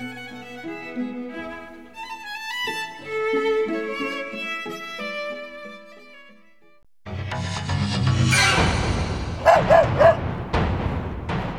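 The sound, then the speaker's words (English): A dog barks in a quick burst of sharp yaps near the end, following a stretch of gentle melodic music and a rush of noisy, busy sound. “The dog wants its tea.”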